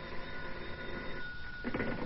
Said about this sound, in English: And then a bell started ringing somewhere and woke me out of a sound sleep.